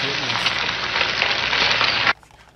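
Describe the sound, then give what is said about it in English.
A loud, steady crackling sizzle like food frying in a hot pan, with dense hissing and popping that runs for about two seconds and then cuts off abruptly into near silence. “Oh, that... is what you cannot see your brain frying on drugs.”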